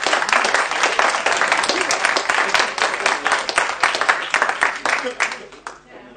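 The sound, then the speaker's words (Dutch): A group of people applauds steadily after a new member of the Hillegom-Lisse audit committee is sworn in, dense overlapping claps sustained for several seconds before tapering off at the end. “Ja, mag applaus.”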